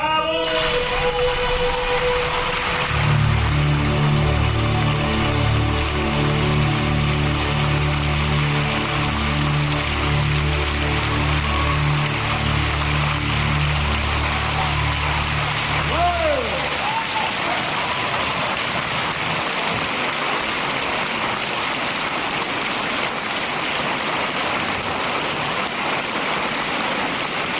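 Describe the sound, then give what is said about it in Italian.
Loud, dense applause from a large audience after a live performance rolls on steadily for the whole stretch, with a sustained musical chord ringing beneath it for the first half before fading out. “Applausi scroscianti”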